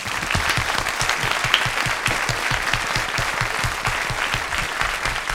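A studio audience applauds steadily for the CEO of the company Jevo and a personal trainer, dense clapping from many hands holding an even, loud level throughout with a faint rhythmic pulse underneath, no voices standing out.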